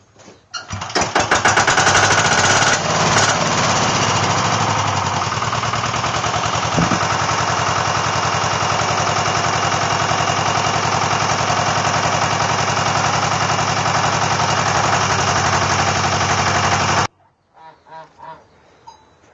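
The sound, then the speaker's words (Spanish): A mower engine is started in order to go mowing: it sputters to life, then drones loudly and steadily for about fifteen seconds before abruptly shutting off, followed by a few faint knocks. “Ahí estoy arrancando la segadora para ir a segar.”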